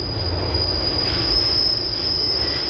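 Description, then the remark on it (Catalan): A special-use government train arrives on track two at a station, bound for Tsugi, with a sustained high-pitched squeal of wheels on rails over a steady, loud low rumble, with no voices. “El tren que arriba per la via segona és un comboi d'ús especial del govern.”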